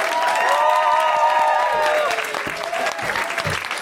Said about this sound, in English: Please, start applauding this the second I start the sentence.